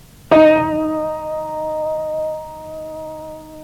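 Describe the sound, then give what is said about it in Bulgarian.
A single piano tone from the musical scale is struck sharply and rings on with a rich set of steady overtones, slowly fading but still sustaining clearly for several seconds, heard alone without any talking. “Да чуем пак един тон от гамата.”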